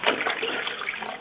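Steady rush of running water, like a tap or faucet pouring, loud with a constant hissing splash and no pauses throughout.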